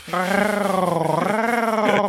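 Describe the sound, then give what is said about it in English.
A man holds a low, buzzy vocal growl for about two seconds as a voice warm-up exercise, steady, with a slight dip in pitch midway and no words spoken. “He's done the Conan O'Brien growl”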